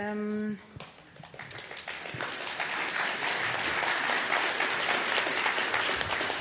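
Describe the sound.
After a brief harmonic voice fades out, applause starts up about a second late and swells into steady, dense clapping from a crowd that keeps going to the end.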